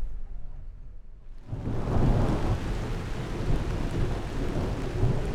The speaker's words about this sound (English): The summer rains begin to fall. They've come late today.